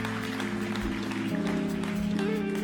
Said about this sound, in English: I think you should give yourselves a round of applause, worshiping so well.